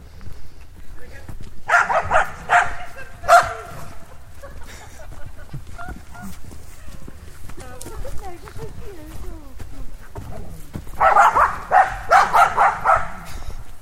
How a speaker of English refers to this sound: Oh, the dogs again.